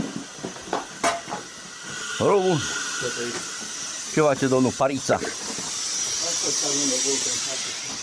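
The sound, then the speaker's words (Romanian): A steady, broad hiss of air rushing through a ventilation door that directs the airflow in a mine gallery runs through the whole recording, swelling louder toward the end, while a few people speak briefly over it. “Asta e ușa de aeraj, de dirijare a aerului.”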